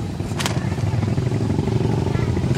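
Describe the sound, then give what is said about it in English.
A Chinese four-stroke motorcycle with roll bars, wind fairings and mud flaps rumbles steadily as it goes by, a low, throaty drone for a couple of seconds, mixed with indistinct voices in the background. “Motorcycles going by are all Chinese four-strokes with roll bars and wind fairings and mud flaps, fake snow leopard skin seats decorated with flying tassels and painted with eternal knots, swastikas, lotus blossoms, and flames.”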